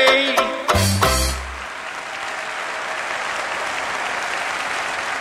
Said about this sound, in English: You can hear the terrific applause for the … song. And it looks like he's won it. Yes, yes, he's won it. This year's National … Finals.